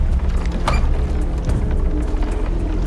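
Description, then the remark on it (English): Metal handles rattle and latches clunk as men try the doors of a row of boathouses one after another, with a short creak partway through, all fairly loud over a steady low rumble. “The mobsters try different doors.”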